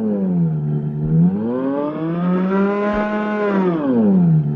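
An intonarumori howler, a mechanical noise instrument built from a box with special membranes and horns, drones loudly and steadily, its rich buzzing tone sliding upward in pitch like a car speeding up, then easing and swelling again, with no voices.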